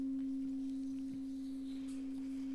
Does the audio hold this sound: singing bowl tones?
yes